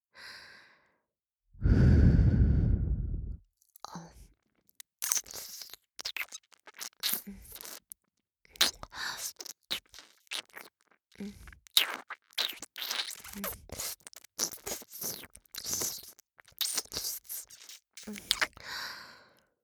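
A long, loud breathy sigh, then a steady run of soft wet ear-licking and smacking mouth sounds, irregular and clicky, continuing for many seconds without any talking.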